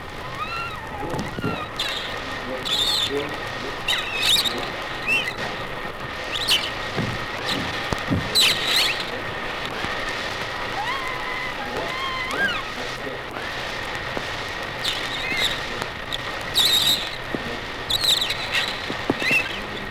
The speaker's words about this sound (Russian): Эти звуки белуга издавала при активном движении в бассейне.